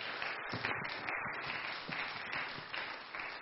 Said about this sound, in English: Why don't you give him and his family a hand clap of appreciation if you love your pastor. Amen.